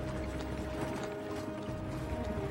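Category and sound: vehicle, horse-drawn cart approaching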